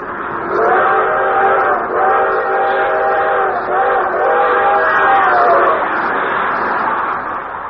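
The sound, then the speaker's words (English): The whistle of the 20th Century Limited steam train blows one long, drawn-out chord-like note for several seconds, wavering and briefly dipping a couple of times, loud over a rushing, rumbling background as the train speeds through the countryside. “One thing he especially liked was the long, drawn-out whistle of the 20th Century Limited as she highballed it through the countryside.”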